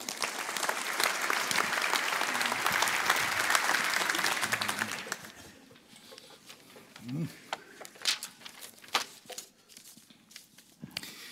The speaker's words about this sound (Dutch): Dat u dat respecteert, kunt u gelijk laten klinken in het applaus dat we voor hem hier gaan hebben als hij het podium opkomt.